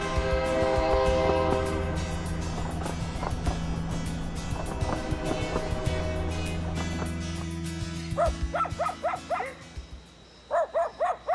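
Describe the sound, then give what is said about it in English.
A passenger train, the 5633 from Pusheng in Daliang Mountain to Xicheng City, sounds its long, droning horn over a loud mechanical rumble for several seconds, then a dog barks in short, repeated yaps as the horn fades. “It is also the starting point of the 5633 train, which takes us to Xicheng City.”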